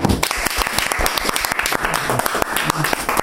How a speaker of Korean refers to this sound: 박수래요.